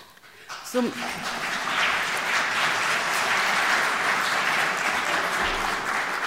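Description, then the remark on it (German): Sustained applause from an audience, a dense steady clatter of many hands, rising quickly after a brief quiet start and continuing at full strength. “Dabei kommt spätestens ein Klatscher, weil diese Familienerfahrung weckt alle.”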